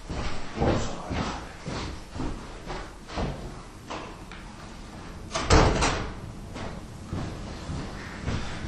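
A door is pushed shut with a solid thud partway through, after some shuffling and handling noises in otherwise quiet surroundings.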